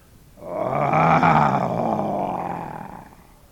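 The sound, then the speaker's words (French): A single deep lion roar swells up quickly, holds loud and rumbling for a couple of seconds, then slowly fades away, heard on its own. “Il vit de son perchoir 1/3e goutte s'écraser sur le museau du lion endormi. L'animal se dressa, salua le soleil d'un rugissement fier.”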